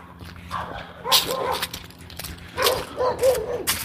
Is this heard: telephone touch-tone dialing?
no